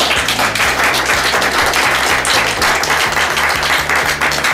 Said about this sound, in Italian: direttamente dal Dinamo Camp, con il gruppo dei genitori, che di solito sono più impegnativi dei bimbi e degli adolescenti, ma ce l'hanno fatta, siete stati veramente... fatevi un applauso.